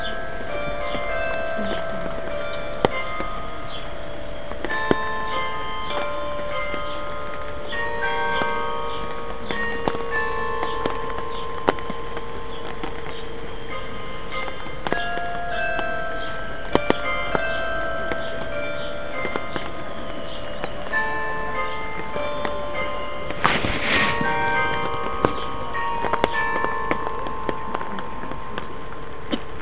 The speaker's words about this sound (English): Now the big bells will start, the very loud ones. Okay, I will continue, but now when the bells start, you won't be able to hear me.